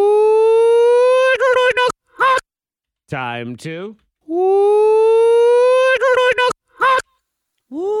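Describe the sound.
A rooster crow played in reverse, heard twice: a long, loud, rising harmonic wail that breaks into choppy stutters at the end, with a short spoken phrase between the two.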